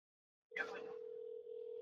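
telephone ringback tone

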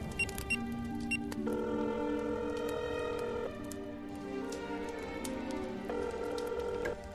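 telephone number being dialed

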